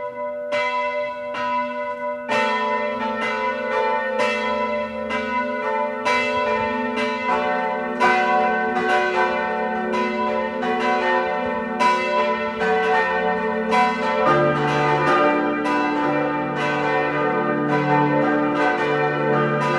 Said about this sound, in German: Es ist 12 Uhr. Sie hören die Glocken der Pfarrkirche Reichenfels in Kärnten.